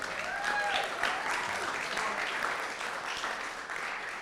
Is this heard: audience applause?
yes